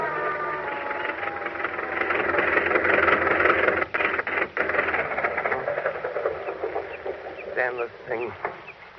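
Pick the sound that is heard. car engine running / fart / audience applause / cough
car engine running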